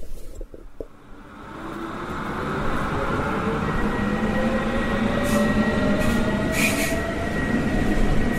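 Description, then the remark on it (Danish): A commuter S-Bahn train in Hamburg, Germany rumbles into a station platform, its steady low roar building after a quiet start, with metallic wheel squeal and brief high hissing bursts toward the end. No one speaks. “Jeg er ankommet i Hamburg, og står nu og venter på S-banen ind mod den ikoniske festgade Reeperbahn.”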